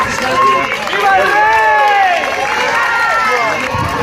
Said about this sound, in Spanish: Aplausos a los Reyes